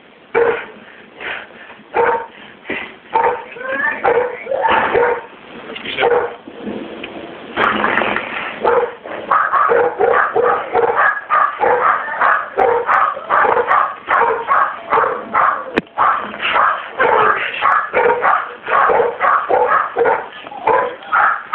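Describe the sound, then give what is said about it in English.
Several dogs bark continuously and excitedly, a dense run of sharp, overlapping barks with a few yips mixed in, loud for the whole stretch, with no other sound standing out. “you might have to get up and put the dogs up, okay?”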